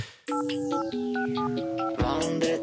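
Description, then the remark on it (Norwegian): The 'Vandretelefonen', a telephone that passes from one Norwegian celebrity to another each week, rings with a bright melodic ringtone, a short sequence of clear stepping electronic tones played loudly, with no voices. “Yes, det betyr ringe vandre telefonen.”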